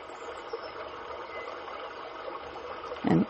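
A steady, continuous rush of water from a waterfall spilling over rock in one section, even and moderately soft throughout, with a brief tonal sound rising near the very end and no talking.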